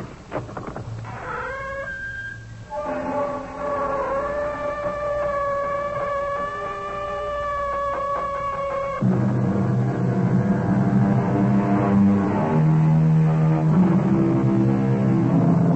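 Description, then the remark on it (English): The door of the CBS Radio Mystery Theater creaks open in a long, drawn-out groan whose pitch wavers and slides for several seconds, then gives way to low, sustained droning tones. No one speaks. “The sound of our door is not unlike what greeted the ear of the famous archaeologist Howard Carter when he opened the door of Pharaoh Tutankhamun's tomb.”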